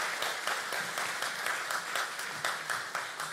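An audience applauds steadily as two guests are called to the front, a dense, continuous patter of many hands clapping with no voices over it, holding a fairly even loudness throughout.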